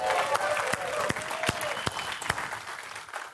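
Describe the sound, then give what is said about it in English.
The High Ridge church audience claps steadily for a few seconds to welcome listeners from all over the world, a dense patter of many hands with occasional sharper, louder claps standing out and a faint murmur of voices underneath. “Give them a warm, big round of applause.”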